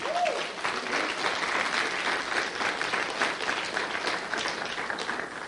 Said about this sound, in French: Donnez un bon applaudissement au Seigneur.